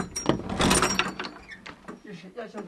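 A wooden door is unlocked and opened: a quick run of metallic clicks and rattles from the lock, then scraping, creaking movement as the door swings, moderately loud and uneven.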